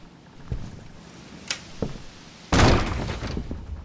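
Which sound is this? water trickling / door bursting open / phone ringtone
door bursting open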